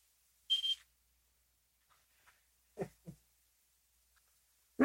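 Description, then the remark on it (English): A pager gives one short, high electronic buzz near the start, then goes quiet apart from a few soft knocks and muffled sounds, and a louder burst right at the end. “Oh, it buzzes.”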